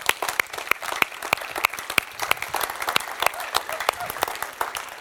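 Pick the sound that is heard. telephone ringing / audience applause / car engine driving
audience applause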